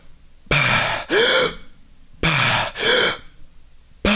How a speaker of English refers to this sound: one of the things I taught was the recovery breath. So hook breathing, as they call it in the freediving world, where once you resurface from a deep or long underwater, you get to the surface and you go...